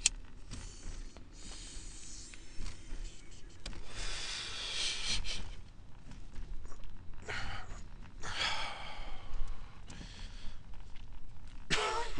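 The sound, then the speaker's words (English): Someone draws in a long, hissing inhale of smoke, holds it, then lets out a breathy exhale, with a few more soft breaths and faint rustling. No talking. “And that was a little bitch fucking hit, too.”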